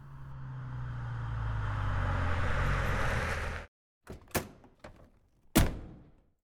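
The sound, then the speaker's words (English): A big black car's engine rumbles for a few seconds as it arrives outside a house and cuts off abruptly, followed by several sharp door clunks as a tall man gets out, the last one loud, with no one speaking. “At that moment, a big black car arrived outside the house, and a tall man got out.”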